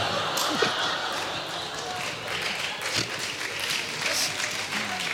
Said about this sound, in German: Die Leute klatschen. Ja, die Leute klatschen. Besinnungslos.